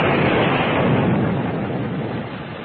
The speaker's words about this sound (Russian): Гром громыхнул еще раз.